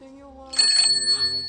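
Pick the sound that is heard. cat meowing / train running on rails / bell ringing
bell ringing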